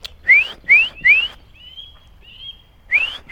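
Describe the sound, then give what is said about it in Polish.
A man in a forest whistles in imitation of a nuthatch call: three quick, sharp upward-sliding notes, a pause with faint thin held tones, then another rising note, clear with no talking. “Już nie umiem tak gwizdę.”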